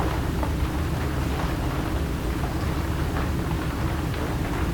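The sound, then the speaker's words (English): Steady, continuous rainfall with a dense wash of noise and a low rumbling undertone, evenly loud throughout with no voices present. “Aware of the movement of rain through silence.”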